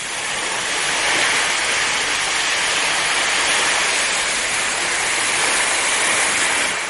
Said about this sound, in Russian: Им нужно было перейти реку Ямуну. Вода бурлила и пенилась, вздымались огромные волны.